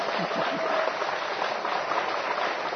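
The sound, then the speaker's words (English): An audience at a spiritual lecture on the Srimad Bhagavatam claps steadily throughout, the many hands blending into a dense, even hiss of applause that stays at a constant level without pauses or distinct individual claps. “And it is not applause to me.”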